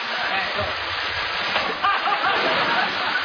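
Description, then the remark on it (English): Lentils spill steadily onto stairs in a dense, continuous gritty patter, like a stream of tiny grains pouring and bouncing, fairly loud throughout. “the lentils are dripping out all over the stairs.”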